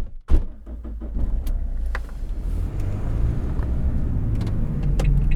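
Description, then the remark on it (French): A car starts off after a few clicks and a thump, then a steady low engine and road rumble carries on, fairly loud, with no talking. “On reprend la route ? Allez, en voiture, voiture Simone.”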